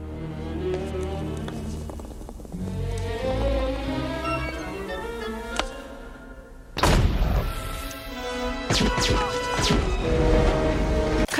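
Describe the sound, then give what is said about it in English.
A firework or flashbang goes off with a sudden, loud burst partway through, cutting over a tonal backdrop and followed by a noisy, crackling rumble of scattered impacts. “I think that's supposed to be a flashbang, but there's really no bang. So I guess it's a firework?”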